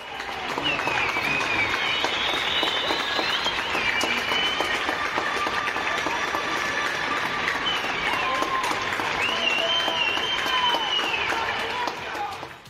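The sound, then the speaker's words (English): A large crowd applauds healthcare workers and other workers at night, a dense steady wash of clapping with scattered whistles and shouts rising over it, holding at full level for about twelve seconds before tapering off. “But we have been seeing a coming together of sorts, as every night people are applauding the healthcare workers and all other workers who are still grafting for the good of everyone else.”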